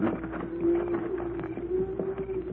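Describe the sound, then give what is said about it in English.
A herd of cattle on the move, coming this way: scattered hoofbeats clatter irregularly beneath a steady, droning low call, continuous and fairly loud, with no one talking. “Cattle are coming this way. Pancho, hear the cattle, Cisco.”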